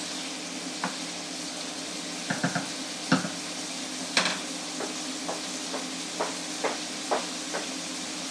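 Chicken sizzles steadily in a pan while a utensil stirs it, with a dozen or so soft scraping clicks against the pan at irregular intervals over the constant hiss of frying.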